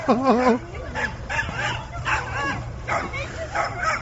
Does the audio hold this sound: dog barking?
yes